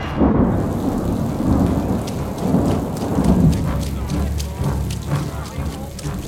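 heavy rain downpour

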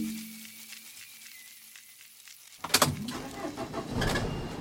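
getting into a car

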